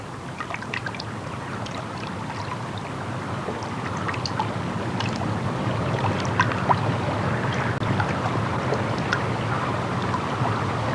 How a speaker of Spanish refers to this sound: Si después de tenerlo sumergido, lo sacamos con el cuello destapado, el agua sale por los agujeros inferiores como regadera.